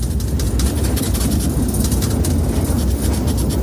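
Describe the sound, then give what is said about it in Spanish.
A train on the Madrid to Seville line rumbles steadily with a heavy, low-pitched vibration and rattling, broken by faint high clicks and squeaks, loud and continuous with no one speaking. “Hemos salido con una hora de retraso y hay tramos en los que las vibraciones...”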